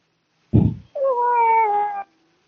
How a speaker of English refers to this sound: I hear a cat.